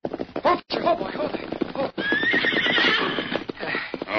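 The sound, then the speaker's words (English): A horse neighs with a long, shrill whinny while hooves clip-clop steadily as Dan rides his horse Victor into the Lone Ranger's camp in the evening, the rhythmic hoofbeats continuing loudly throughout the short stretch. “When evening came, Dan rode into the Lone Ranger's camp to give his report.”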